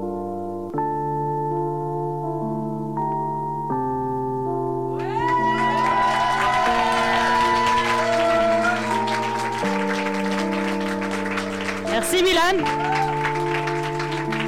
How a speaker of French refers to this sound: Ok, merci, un grand tonnerre d'applaudissements encore s'il vous plaît.